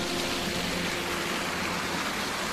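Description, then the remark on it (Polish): A steady, dense rushing of churning water with a faint low mechanical hum underneath, continuous and unchanging, from a pond aerator oxygenating the water for fish, with no voices. “To jest natleniacz, tak zwany aerator, który dotlenia wodę po to, żeby zachować odpowiednie parametry wody i dobrostan ryb.”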